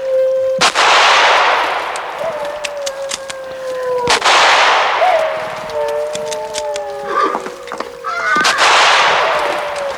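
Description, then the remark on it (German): Three loud gunshots fired at attacking wolves ring out a few seconds apart, each trailing off into a rushing roar, while high wavering wolf cries sound through the noise between shots. “Schießen Sie, Thalcave, so schießen Sie doch! Die Wölfe greifen an! Ich habe nur noch 14 Schuss.”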